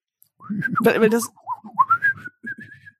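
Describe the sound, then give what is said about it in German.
A person whistles a short, warbling phrase imitating bird language, with gliding pitch and a few quick chirpy notes, partly mixed with a voiced hum at the start. “Und dann denke ich so, aber was ist denn das Wort für Fenster in Vogelsprache?”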